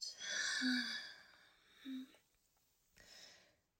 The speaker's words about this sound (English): Just take a deep breath in the rhythm of how I stroke your thighs. In. Out. There you go. Good boy. Keep breathing in. Out.